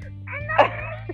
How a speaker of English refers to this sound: I've got a very rowdy toddler in the back.